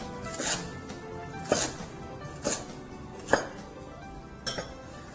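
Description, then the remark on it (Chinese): A knife chops celery into segments about 4 to 5 centimeters long on a cutting board. Five crisp strikes come roughly a second apart over faint background noise, with no one talking. “好，我们这个大概也是一样，切成4到5公分段哈，这个芹菜。”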